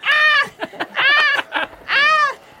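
A chicken squawks loudly three times in quick succession as it is stabbed with a flame dagger, harsh drawn-out cries with short choppy clucks between them, and no talking.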